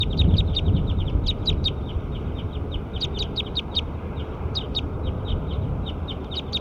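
bird calling

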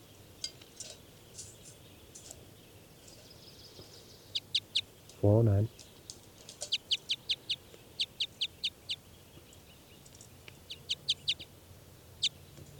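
bird calls

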